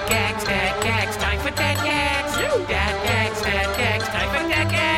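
Bright bell tones ring out within a loud, busy musical jingle, layered over steady pulsing bass notes and chiming high harmonics that carry on throughout without any talking.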